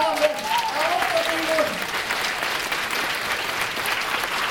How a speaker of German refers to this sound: Ich möchte aber als erstes, dass Sie auch mal wirklich einen ganz, ganz, ganz kräftigen Applaus für meine Band!